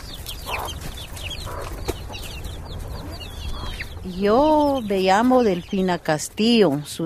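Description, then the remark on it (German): Chickens cluck and squawk loudly in a quick, excited burst, following a stretch of busy outdoor background noise with faint chirps and scattered clatter, in a poor district of Guatemala where chickens, goats and dogs roam everywhere. “Überall laufen Tiere herum, Hühner, Ziegen und Hunde.”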